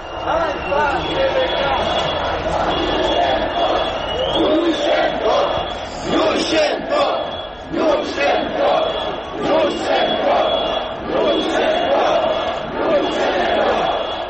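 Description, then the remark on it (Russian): A large crowd shouts and chants during a revolution outside an open window, many voices merging into a steady, loud roar that swells and dips slightly over about fourteen seconds. “давайте еще раз вот откроем окно и послушаем, что они кричат.”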